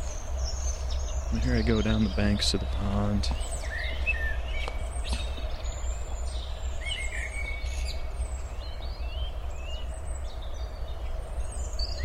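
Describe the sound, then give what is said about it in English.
A man speaks briefly outdoors by a pond while scattered bird chirps and calls ring out over a steady low rumble of ambient background noise. “There's a bird calling.”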